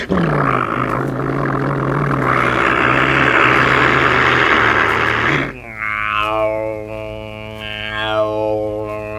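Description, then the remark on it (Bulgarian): An airplane engine roars loudly and steadily during takeoff, then drops into a humming, droning tone with a whine whose pitch shifts up and down. No one speaks. “Защо трепери мотора? Мотора не трепери, трепти!”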